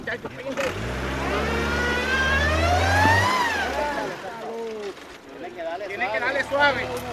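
A car engine revs and strains at high pitch for several seconds, as if wheels are spinning without grip, then drops back, while several people talk and call out nearby.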